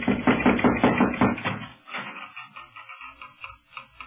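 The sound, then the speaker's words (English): Knocking on the door of a house on a Moorish street in Morocco: a quick, steady run of about six loud raps, followed by a softer, irregular tapping that fades out. No one speaks. “No, but here, let me knock.”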